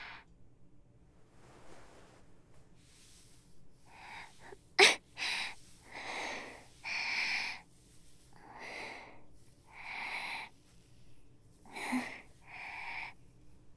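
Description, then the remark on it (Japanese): Repeated coughing with wheezy, strained breaths. One sharp, loud cough stands out, followed by a steady run of rasping coughs and labored inhales roughly every second, with no talking. “さっきから咳が止まらなくて、少し息苦しくって。”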